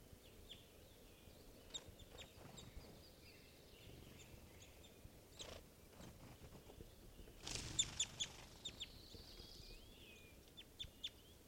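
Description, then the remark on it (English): Small birds chitter and chirp in quick, scattered bursts as they try to go down to the water, against a quiet outdoor background, with a denser flurry of calls about two-thirds through; no one speaks. “Birds are chittering, trying to go down to the water.”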